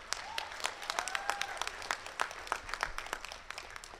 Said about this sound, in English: That's right, you can definitely clap for Rachel.